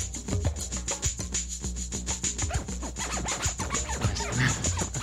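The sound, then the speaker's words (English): A sample dragged onto a software scratch window is scratched digitally back and forth with mouse clicks, making rapid back-and-forth swipes of gritty, rubbing bursts in an irregular rhythm. The sound is steady and fairly loud throughout, with no talking. “Digital scratching is included, so any sample can be dragged onto the scratch window, and then using the mouse clicking, you can scratch back and forth through it.”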